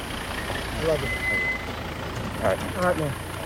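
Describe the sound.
A pickup truck's engine rumbles low and steady as it pulls up and stops, with a thin high tone briefly above it and a few short, muffled voices over the drone.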